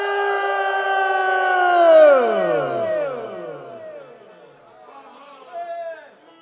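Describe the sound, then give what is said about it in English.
A crowd yells a long, loud "wahoo" together into a Wahoo meter, many voices swelling for about two seconds before the pitch slides downward and the cheer fades into scattered, quieter shouts. “This thing only registers Wahoo, so we better do a Wahoo.”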